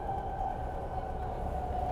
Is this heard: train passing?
yes